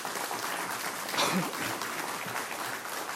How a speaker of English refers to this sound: I hope the applause doesn't count on my time.